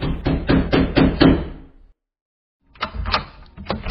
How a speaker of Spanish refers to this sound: Se fue a la celda de la superiora y tocó la puerta.